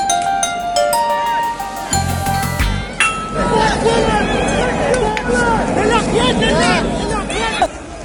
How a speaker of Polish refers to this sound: Słychać odgłos kamieni rzucanych po stronie białoruskiej w ogrodzenie z drutu kolczastego